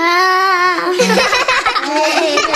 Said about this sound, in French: Oh, il y a encore quelqu'un qui pleure. Qu'est-ce que c'est? Une Madeleine. Oh, une Madeleine qui pleure.